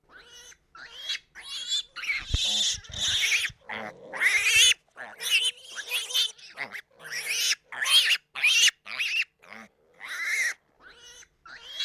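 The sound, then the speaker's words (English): Pigs on a small pig farm in County Monaghan grunt and squeal in a rapid string of short, loud bursts, with brief gaps between calls and no one talking. “Yeah, we have a small pig farm in County Monaghan, nothing major.”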